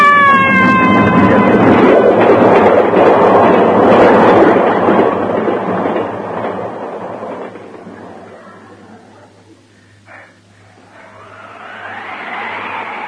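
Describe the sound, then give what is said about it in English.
A train rumbles loudly along the railway tracks with a brief high whine at the start, then its roar fades away, leaving a low steady hum and faint noises. “I lay gasping on the railway bank.”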